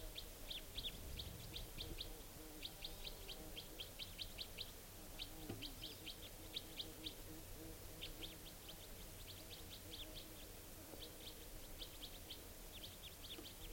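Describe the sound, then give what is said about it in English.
A juvenile female wild bird of call type 4, coming down to the cages, calls in a rapid type 4 series of short, high chirps, repeated in clustered bursts throughout, over a steady low background rumble with no talking. “And this type 4 female is calling here. Wild bird.”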